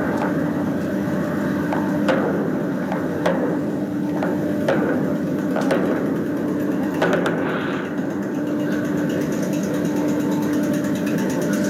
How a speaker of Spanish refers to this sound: Usted escucha disparos, en este caso, es digamos lo que nos están señalando, esto es el Cementerio General, es los patios de tierra, particulares los patios de tierra que están contiguos al Cementerio General.